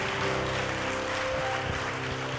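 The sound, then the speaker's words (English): A crowd claps steadily and densely for a couple of seconds, a continuous wash of applause with a faint sustained hum or musical tone underneath and no speech. “Come on, first responders, come on a little bit louder. Let them know you appreciate them.”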